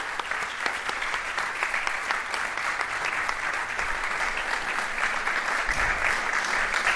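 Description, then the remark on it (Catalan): An audience claps steadily for several seconds for a volunteer from the audience, a dense, even wash of many hands with no voices standing out, holding at a fairly constant loudness throughout. “Sí senyor, un aplaudiment, sisplau.”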